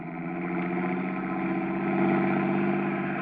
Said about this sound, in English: Hey, here comes a car it looks like the boys Katzenberger's looking for.